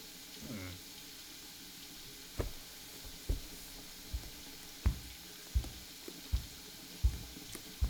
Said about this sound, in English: Getting those dishes knocked out, I see. You're always so on top of things around here.